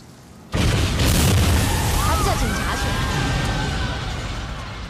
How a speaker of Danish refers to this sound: Og en anden fortælling kunne jo også godt starte med en eksplosion.